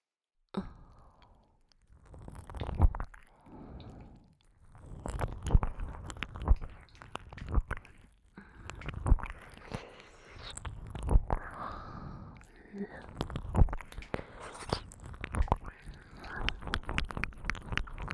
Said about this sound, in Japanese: では次は耳なめも加えて3点攻めしていきましょう。